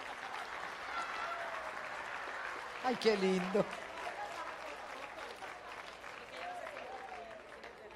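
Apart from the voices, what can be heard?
audience applause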